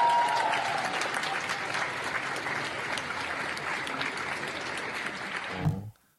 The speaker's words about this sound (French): Bon, voyons cette séquence applaudissement. La péniche, donc la péniche est aujourd'hui un bateau ivre. Voyons cette séquence applaudissement.